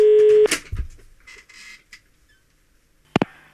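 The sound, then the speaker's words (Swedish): A steady outgoing-call ringing tone from a phone call made from Sundbyberg sounds loudly for a moment, then cuts off with a click as the line picks up, followed by faint rustling and another sharp click. “Och jag ringer nu som nästa på tur att flytta till samma ort.”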